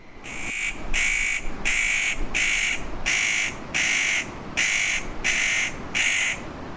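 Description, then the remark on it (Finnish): A spotted nutcracker, a jay-sized member of the crow family, gives a series of about nine harsh, rasping calls in a steady, evenly spaced rhythm, loud and close as it comes right up nearby, with no one speaking. “Pähkinähakki. Tuommoinen närhen kokoinen varislintu, joka nimensä mukaan sitten on suurista siemenistä kiinnostunut. Tulee ihan viereen.”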